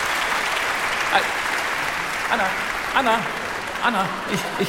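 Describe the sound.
Steady, dense applause from an audience fills the whole stretch, with several voices calling or cheering out over the clapping now and then.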